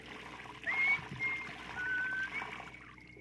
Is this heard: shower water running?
yes